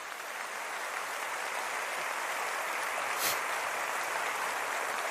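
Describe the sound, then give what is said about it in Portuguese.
An audience applauds Jesus in a steady, dense wash of clapping that holds at an even level for several seconds, with no voices heard above it. “Pode aplaudir a Jesus.”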